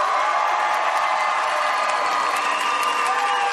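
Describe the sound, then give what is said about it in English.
A large audience cheers loudly and continuously for Sean Cullen to come back after he walked off the stage, a dense roar of shouts, whoops and scattered applause that stays steady for the whole stretch with no pauses. “You're going to have to cheer loud enough for him to hear because he's walked off the stage.”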